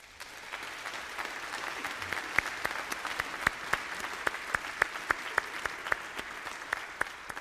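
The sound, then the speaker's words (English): A church audience applauds to show support for a ministry worker leaving to go back to the mission field: a steady, dense wash of clapping with a few sharper, louder individual claps standing out, holding at an even level throughout with no voices over it. “All right, now every one of you who just applauded showing your support, you need to be praying for”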